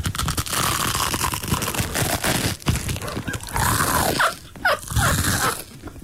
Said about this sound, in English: I'm going to chew on some toast. Ready? Okay.